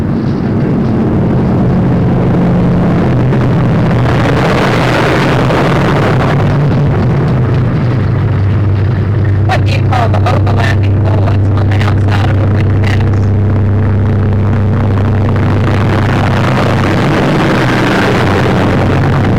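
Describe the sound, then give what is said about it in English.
A heavy truck rumbles past, its loud, deep engine drone filling the whole stretch, with a burst of rattling clatter midway through. No one speaks. “I'll wait till the truck goes by.”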